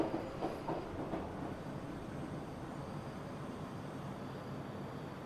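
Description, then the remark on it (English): A subway train rumbles steadily along the rails, a dense, continuous roar with a few faint rattling clicks near the start, holding an even loudness throughout with no voices. “She teases me for being homesick, hugs me, and busies herself counting the subway stops.”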